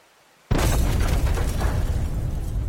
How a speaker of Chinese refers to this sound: 轰隆，一颗炮弹在林三的主船边爆炸，他见状大怒，走到船头一看，却是高丽军队在岸边发炮，想来是要给大华的军队一个下马威。